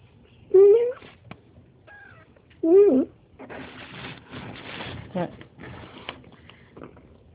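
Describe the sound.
A person gives two loud meows imitating a cat, a couple of seconds apart, followed by a stretch of muffled voices and shuffling noise.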